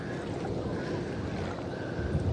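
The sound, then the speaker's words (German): Small waves lap gently and steadily, as if against a boat hull, under a continuous low wash of water and faint wind, on calm, flat water with no swell. No one speaks. “Die Wellen schwappen. Ist so schön. Hört ihr das?”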